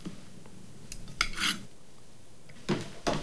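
Dirty dishes carried back to the kitchen clatter and clink as they are set down, a few sharp knocks and a scraping rattle, then two more heavy clunks of crockery landing in the sink, with no talking.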